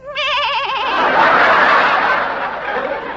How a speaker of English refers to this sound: That was a small goat, a little kid.